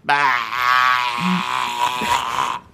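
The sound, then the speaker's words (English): A person with a hoarse voice from being sick imitates a sheep's bleat with one long, wavering, nasal 'baa' held for over two seconds, loud and harmonic-rich, with a rough, shaky quality throughout. “I always want to do this like a sheep.”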